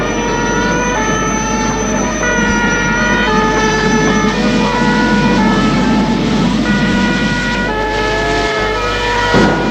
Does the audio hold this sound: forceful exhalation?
no